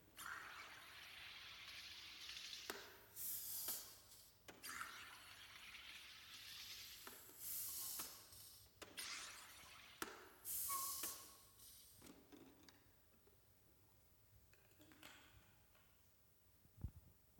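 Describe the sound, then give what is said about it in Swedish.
A soda maker carbonates water in a series of loud hissing, gurgling bursts with short pauses between them, then fades to a quiet fizz and faint settling sounds. “Så nu ska jag trycka i lite kolsyra här.”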